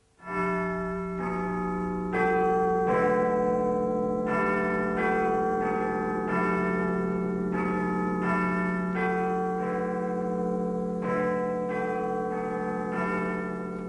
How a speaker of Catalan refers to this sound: El rellotge començava a sonar... I allò volia dir... Oh, les 12.